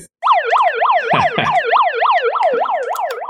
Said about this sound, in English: I mean, you have the megaphone that has a siren on it. You have, well, I've, oh, yeah. I've kind copy of that. Yep, here it comes. We gotta fight it. We gotta sound the alarms.